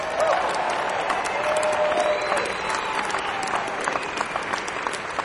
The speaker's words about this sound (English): You're going to clap a lot tonight. Keep those hands warm for all those crafts.